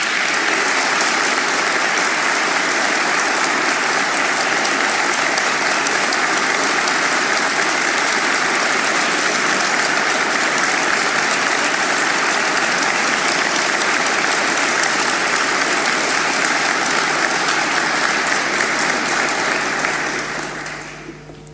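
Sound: strong audience applause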